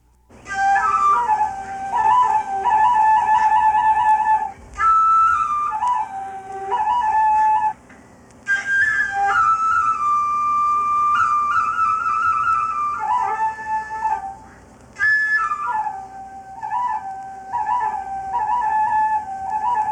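A bamboo flute played by a Hutu herdsman while guarding his cattle: a solo melody of breathy, high wavering notes with quick trills and ornaments, in several phrases separated by brief pauses, with no voices.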